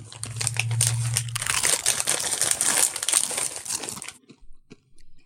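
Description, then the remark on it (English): Loud crunching of Indian curry-flavored Doritos tortilla chips, a dense burst of crackly bites lasting about four seconds over a faint low hum, then trailing off into a few quiet chews. “Indian curry Doritos. You guys ready for the crunch off?”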